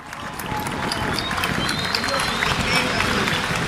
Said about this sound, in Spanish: Esos aplausos son para el arzobispo cuando les pide seguir armando lío, como les pidió el Papa Francisco.